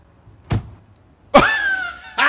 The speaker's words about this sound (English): Look, he opens the car door. She gets in.